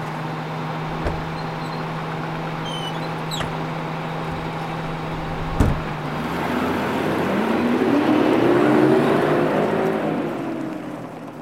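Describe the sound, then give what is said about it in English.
A bus engine idles with a low, steady hum, then after a sharp clunk it revs up and pulls away carrying a family to a camp, its drone swelling and climbing in pitch before easing off. No one speaks. “The family went on the bus and were silent all the way to the camp.”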